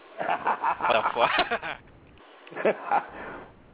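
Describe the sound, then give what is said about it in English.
A person imitates a dog's bark with a rapid run of short, loud, gruff vocal bursts, then pauses briefly before barking twice more. “Oh, man, I swear, like, the way you're trying to say it, like, it sounds like you're fucking barking or something like that over there.”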